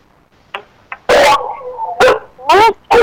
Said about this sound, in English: Well, here go the dogs. That's my cue to get off the radio.